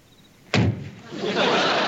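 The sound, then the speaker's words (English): Gomer slams the back door of a squad car shut once in the driveway of the Taylor home, loud, with a sharp thud that rings briefly before fading into a steady background rumble. “Gomer slams his.”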